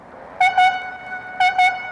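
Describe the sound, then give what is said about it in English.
A donkey engine's whistle in Washington gives two short, bright toots, pauses, then repeats the same double toot. The shrill tone rises over a faint, steady whine with no voices. “Or listen to the toot of a donkey engine.”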